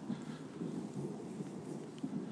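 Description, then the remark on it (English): A steady, continuous rumble of thunder rolls on without break, not very close but not far away, with the hiss of falling rain spread across the top, heard outdoors in the rain. No one speaks. “We have fairly constant thunder.”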